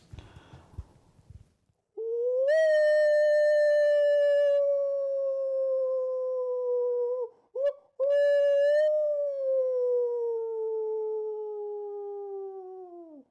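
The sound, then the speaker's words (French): A person imitating a werewolf lets out two long, loud wolf-like howls, the first sustained for several seconds before a brief break and a second drawn-out howl that slowly falls in pitch, preceded by a short breathy rustle. “mettons que tu vois la pleine lune, là, tu fais quoi?”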